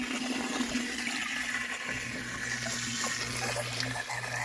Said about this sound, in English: That's a little koi pond water pump. Then I just stick it in there. It pumps it, the fluid up through the can, and then of course with the hole in the glass, it all comes back down here. So it's just a recirculation of the water.